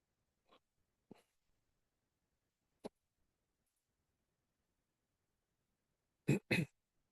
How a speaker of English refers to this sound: Got the hiccups today.